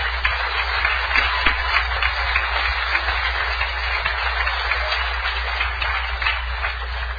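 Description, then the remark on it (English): An audience applauds steadily to welcome the first speaker, a dense wash of many hands clapping at an even loudness for about seven seconds, with no voices over it. “I'd actually prefer if you'd save your applause to when I'm done.”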